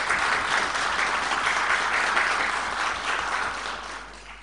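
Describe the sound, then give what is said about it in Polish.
Steady applause from a group for the county head (starosta) after the Tomaszów county board was unanimously granted a vote of discharge, a dense crackle of many hands clapping at a fairly loud level that holds for several seconds and then slowly tapers off, with no talking over it. “Brawo, panie starosto.”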